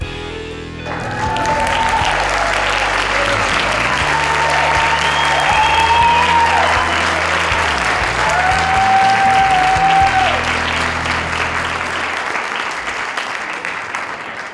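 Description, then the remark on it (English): A crowd bursts into sustained applause, a dense wash of clapping that swells quickly and holds steady for over ten seconds, with faint musical tones running underneath before it fades. “I know that's why you were applauding”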